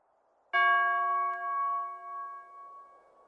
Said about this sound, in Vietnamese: Tiếng chuông thiền vang lên phía bên kia vườn Zen, báo hiệu hết giờ làm việc. Gió giặt vào, đưa tiếng chuông thông thả vào núi rừng. Cả khu núi thênh thang, tiếng chuông thiền không náo nức, không hối hả.